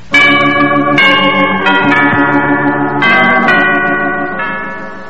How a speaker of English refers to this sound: The bell!